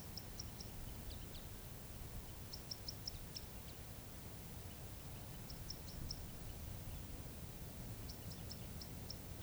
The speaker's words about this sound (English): and there is a cross bill somewhere near the place I'm parked. But I do not see the bird, and it's giving some kind of song call. Almost like a fighting call, or trill. I do not see the bird.